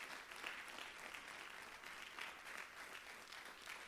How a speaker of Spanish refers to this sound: ¿Cuántos le dan un aplauso a Dios?